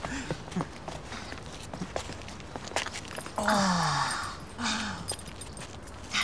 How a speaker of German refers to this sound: Und wie der Zufall es so will, geht mal ein paar Schritte weiter zum nächsten Laden.